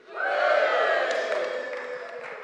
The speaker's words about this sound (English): Yeah, thank you. Yeah, you should cheer, yeah.